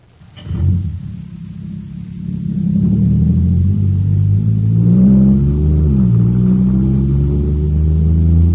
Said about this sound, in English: Wow, this jet cycle is supercharged now. Sure thing, it's got super fuel.